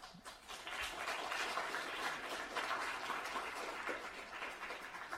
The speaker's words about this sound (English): I hope you can hear the enthusiasm of the audience who is applauding to you, and I'm also hoping the online audience who is joining us also is applauding to you, because it's a very thorough presentation that you gave about a sneak peek.